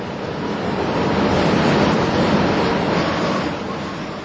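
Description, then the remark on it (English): Loud, steady rushing wind that swells toward a peak midway, then eases slightly near the end, filling the whole clip with broad hissing roar and no voices. “Hark at the wind rising.”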